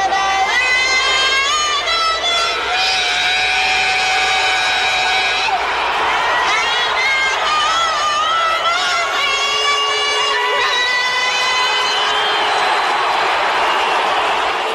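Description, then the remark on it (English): A huge stadium crowd in San Diego boos loudly and without letup at Roseanne Barr's performance of the national anthem on July 25, a dense roar of jeers, whistles and shouts filling the space for the whole stretch while the performance carries on beneath it. “So Roseanne Barr was getting booed out of the building in San Diego.”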